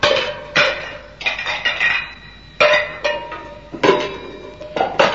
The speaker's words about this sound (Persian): بله، بازم بنا کرد ظرفای آشپزخونه رو این طرف و اون طرف پرتاب کردن.